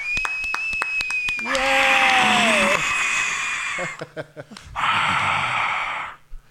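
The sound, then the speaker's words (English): Two long, loud, breathy rushes of air sound right up against the microphone, separated by a brief pause, with a thin whistling tone and light clicks before the first one. “That just sounds like you're breathing too heavily in this.”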